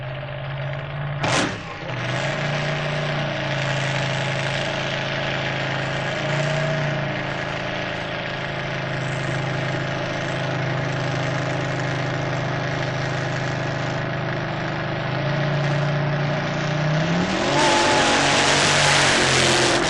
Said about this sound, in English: Next, a competition altered. Thunderbird is the name and the driver is Brian Hazelton. Body is a much stretched Fiat Topolino and engine is supercharged 6.4-litre Chrysler.